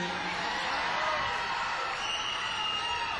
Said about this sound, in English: crowd getting warmed up a little bit.